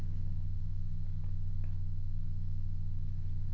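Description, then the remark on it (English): A stock car engine rumbles outside, a deep, steady low drone that stays constant throughout, muffled, with no voices over it. “In case you want to know what some douchebag in a stock car sounds like.”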